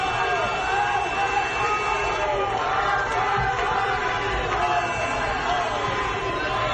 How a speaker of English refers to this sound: People were cheering, shooting off fireworks, honking their horns.